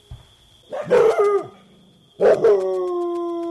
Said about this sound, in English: And there's Keikoa muttering again. And now another dog's going to join in.